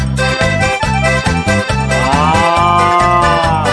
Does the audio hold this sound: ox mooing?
yes